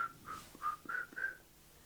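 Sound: person whistling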